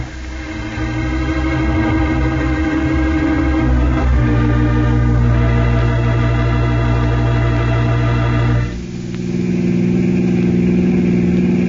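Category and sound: vehicle, car engine running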